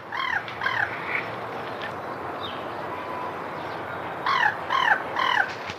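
Crows caw in two bursts of three harsh, evenly spaced calls, separated by a few seconds of steady outdoor background noise; the calls sound clear.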